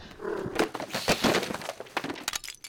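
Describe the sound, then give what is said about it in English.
A pile of books topples over as a hardback is pulled out of it, in a rapid, irregular cascade of thuds, slaps and clattering knocks, fairly loud and lasting a few seconds, with no voices. “Thought I could pull out that hardback without collapsing the whole pile.”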